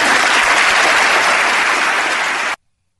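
audience applauding a speech

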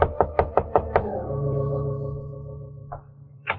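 knocking on a door

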